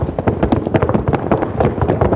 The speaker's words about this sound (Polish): uwaga, stopy zaczynają pracować, czyli ten, kto najfajniej będzie tupał, czyje buty dadzą nam fajny tutaj efekt dźwiękowy.